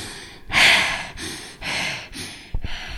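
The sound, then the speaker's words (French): Heavy, rapid breaths of a woman wearing a mask, out of breath from running all day, about four loud airy inhales and exhales in a steady rhythm, panting, with no talking. “Je suis essoufflée d'avoir couru toute la journée.”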